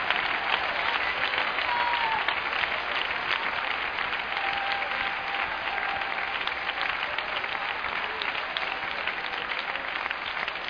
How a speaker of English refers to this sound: Clap your hands with a great shout of victory.